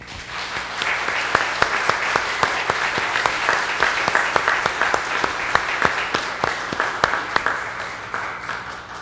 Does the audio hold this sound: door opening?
no